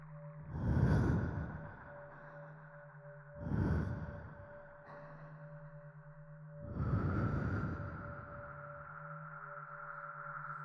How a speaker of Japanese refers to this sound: 息を吹きかけられるたびに快感が湧き上がってくる。